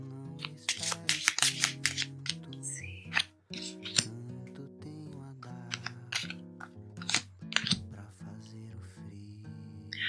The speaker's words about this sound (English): Okay, so let's shuffle these cards.